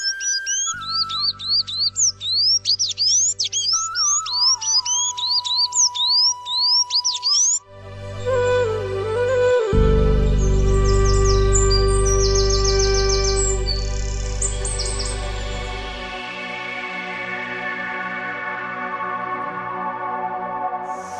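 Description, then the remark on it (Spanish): A blue bird sings a rapid series of bright, rising chirps ("chowí, chowí") for several seconds, loud, before the calls give way to swelling tonal music with a deep low drone. “Desde ese día se puede encontrar en la selva, sobre todo en los naranjales, un bello pájaro azul que vuela cantando Chowí, Chowí.”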